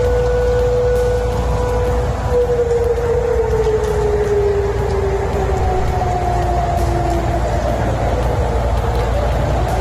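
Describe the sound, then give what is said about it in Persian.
An air raid siren heard in parts of Tehran, Iran: a steady wail with a long, slowly falling tone, alongside a continuous hiss like rain and a low background rumble. No one speaks. “شنیده شدن صدای آژیر در بخش‌هایی از تهران و تغییر مسیر هواپیمای شرکت ترکیش، مسئولان دلیل این اتفاق را بدی هوا می‌دانند.”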